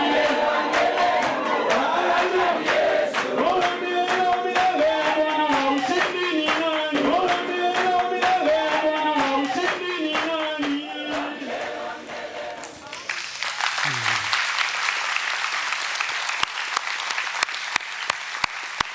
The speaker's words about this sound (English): Lord, we're applauding you for what you're doing, Lord. It's just incredible.